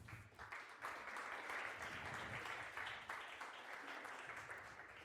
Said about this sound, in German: Begrüßt ihn mit einem herzlichen Applaus.